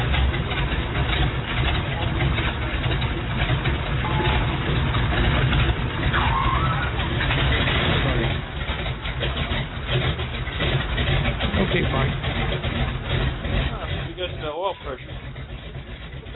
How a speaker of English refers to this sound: Your engine sound and look good on the instrument panel